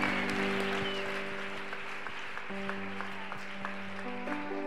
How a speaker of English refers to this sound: Please clap hands for them as they go back to their seats. God bless you.